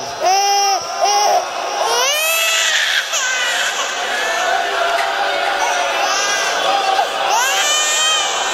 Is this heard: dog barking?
no